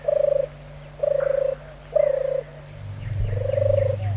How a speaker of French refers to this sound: Pas de bruit, à part celui des oiseaux et des insectes.